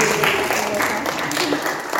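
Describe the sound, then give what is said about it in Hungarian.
An audience claps steadily for the children and adults throughout, a dense, continuous patter of many hands at fairly loud level, with some murmuring voices mixed into the applause. “És tapsoljuk meg a felnőtteket is.”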